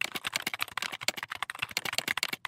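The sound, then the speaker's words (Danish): Rapid typing on a desktop computer keyboard to write program code, a dense run of sharp key clicks in an uneven, fast rhythm that continues without pause, with no voices. “Og når du har besluttet det, så skal du bare i gang med at taste.”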